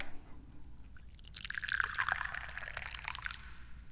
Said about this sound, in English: If you didn't know that, well, that's just probably because this is your first time listening to the Dubious Goals Committee, in which case, let me pour you some tea.